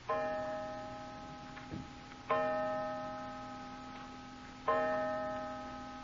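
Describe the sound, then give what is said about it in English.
A clock strikes five o'clock with slow, resonant chimes, three heard here about two seconds apart, each ringing out and fading, with faint ticking in between. No one speaks. “Five o'clock.”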